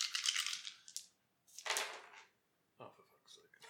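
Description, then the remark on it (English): Dice rolled for a scouting check in a game clatter and rattle across a hard surface in three quick bursts, moderately loud, with short quiet gaps between the rolls. “Okay, so roll your dice.”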